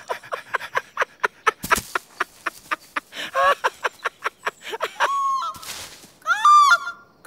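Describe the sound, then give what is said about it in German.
A green bird calls loudly with harsh, honking squawks and squeaky trills, over a quick, steady run of flapping beats as it flies in. “Was kommt da geflogen? Was ist denn das? Ein Vogel so grün wie das Gras.”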